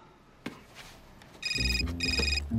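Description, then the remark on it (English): A cell phone rings with a bright electronic ringtone, two bursts of trilling tones in quick succession, loud after a quiet moment with a faint knock. “Harry answers his cell phone.”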